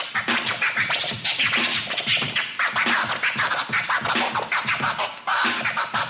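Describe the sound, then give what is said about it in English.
DJ scratching vinyl on two turntables through a mixer with a crossfader, a beat on one turntable and sounds on the other: rapid, choppy back-and-forth scratches over a steady beat, loud and continuous, with bright, rasping bursts repeating in quick rhythmic patterns and no talking. “Scratching's more than just mixing from one turntable to the other.”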